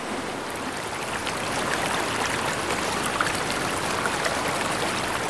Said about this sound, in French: La rivière, la crue, laisse leur marque donc.